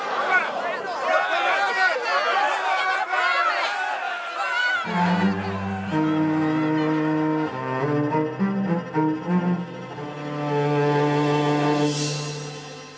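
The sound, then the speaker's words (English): An angry mob shouts and clamors together against Jesus in a loud, jumbled roar for about five seconds, then gives way to sustained, swelling orchestral music. “Now they railed on him as the worst kind of criminal.”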